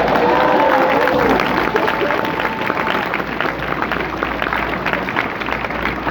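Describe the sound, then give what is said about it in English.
A crowd bursts into steady applause, dense clapping that lasts for several seconds, with a few shouts and cheers mixed in near the start before it slowly thins out. “First of all, y'all need to give me a round of applause right now.”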